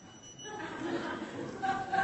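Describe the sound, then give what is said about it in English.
A phone alarm tone rings out, its steady electronic pitch rising over a murmur of voices and soft chuckling, growing louder toward the end. “It's not even someone calling. It's an alarm.”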